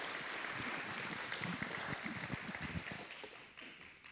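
An audience applauds, a dense, steady patter of many hands clapping at once that holds for a few seconds before tapering off toward the end. No one speaks over it.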